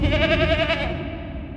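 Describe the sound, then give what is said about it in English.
A single loud goat bleat with a quavering, wobbling tone that holds for under a second and then trails off, heard alone with no talking. “And then the anytime you're mentioned now, it's literally just like whoosh, and then the goat.”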